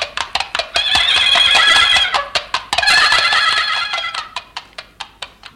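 A horse whinnies loudly twice in long, quavering calls, framed by a steady series of sharp hoof clip-clops that continue alone at the end, clear with no talking.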